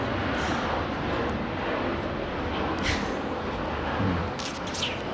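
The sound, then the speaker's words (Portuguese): A steady, broad roar of an airplane passing overhead fills the whole stretch, loud and unbroken, with no one talking. “Deixamos passar o avião.”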